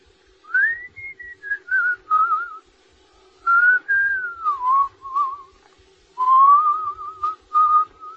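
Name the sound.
person whistling a song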